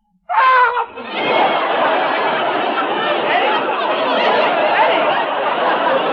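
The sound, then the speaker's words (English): A man screams loudly, starting with a short pitched yelp that breaks into a long, harsh, raspy shriek held for several seconds without a pause. “You just screamed.”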